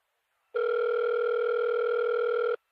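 telephone ringing tone

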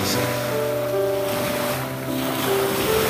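sea waves

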